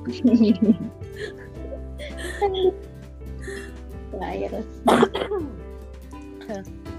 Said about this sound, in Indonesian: Dirimu tapi udah tinggal apa sekarang gejalanya? Batuk-batuk sih, tinggal batuk-batuk, lemes udah gak terlalu.